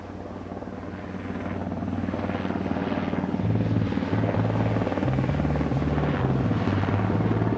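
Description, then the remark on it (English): A helicopter visiting a camp drones steadily overhead, its rotor chop and engine hum building in loudness over several seconds and staying strong, with no voices. “we had unbelievable visits by helicopter from the dictator Patakos”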